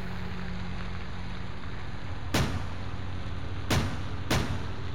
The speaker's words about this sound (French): D'autres coups de feu retentissent.